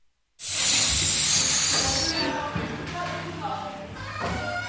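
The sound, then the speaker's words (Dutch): A child imitating Ka the snake from The Jungle Book makes a long, loud snake-like hiss lasting a couple of seconds, then continues talking in a stretched, hissy manner. “Ik ben Ka de Slang.”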